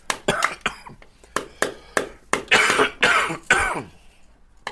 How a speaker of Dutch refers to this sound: Ik hoest al sinds... eigenlijk sinds een dag voor nieuwjaar of zo.